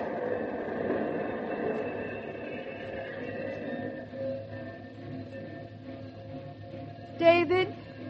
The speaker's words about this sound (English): And right here when the train pulled in, the eighth wonder of the world.